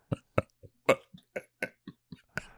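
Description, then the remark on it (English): A rapid series of about ten short, sharp, fairly loud coughs, coming in quick uneven bursts with brief pauses between them and no talking. “And why are you coughing?”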